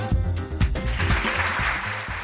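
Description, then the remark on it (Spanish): Steady applause from a crowd, a dense wash of clapping with a few sharper individual claps standing out, fairly loud and continuous throughout. “Y este aplauso lo estamos diciendo, pero es que realmente es muy importante.”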